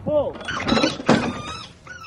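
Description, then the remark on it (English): A cartoon catapult launch of a bunny: a solid thunk and burst of clatter, with the bunny's tiny, high, wavering scream sliding up and down over it as it is shot out of the catapult. The scream fades briefly and returns near the end. “So the bunny was launched, and you hear it small screaming under the when it's shot out of the catapult.”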